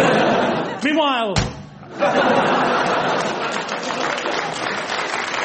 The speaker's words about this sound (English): And he laughed, and he laughed, and he slammed the door as he left. Not very loud, but he slammed it.